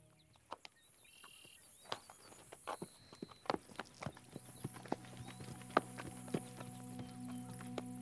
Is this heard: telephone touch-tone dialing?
no